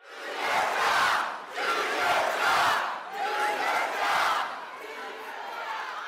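A large crowd at Senator Tom Cotton's town hall meeting, in a Springdale venue seating 2,000, chants and yells, including "Do your job," in loud rhythmic surges, with three or four swelling waves of massed voices before the roar settles into a sustained murmur.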